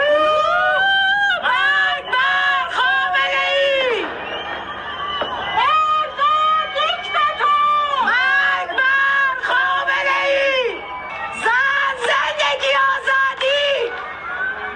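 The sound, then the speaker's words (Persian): Protest chants shouted from rooftops and windows of homes in Chitgar township, Iran, at the Nowruz new year moment: many voices yell "death to Khamenei" and "death to the dictator" in repeated, overlapping bursts, rising and falling in a rough rhythm, loud and continuous throughout with an echoing, open-air feel. “همزمان با تحویل سال در بسیاری شهرهای ایران از جمله تهران فریاد اعتراض مردم هم از پشت بام ها یا پنجره های خانه هایشان شنیده شد.”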